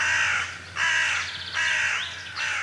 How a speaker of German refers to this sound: Jeder kennt sie. Kaum einer mag sie. Krähen haben beinahe den ganzen Erdball besiedelt und dabei fast immer die Nähe von Menschen gesucht.